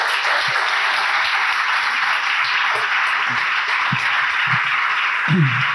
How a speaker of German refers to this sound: Also allein das, glaube ich, gebührt schon mal einen fetten Applaus. Er kommt zwar erst gleich, aber ihr könnt ja schon mal fett applaudieren.